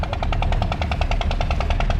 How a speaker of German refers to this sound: Hin und wieder hört man auch das Knattern der Wasserpumpen.